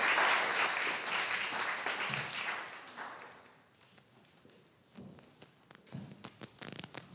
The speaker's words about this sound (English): Well, shall we give her a little round of applause? Because I think she did brilliantly.